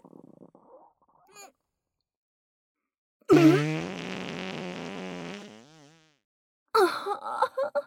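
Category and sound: human body sound, fart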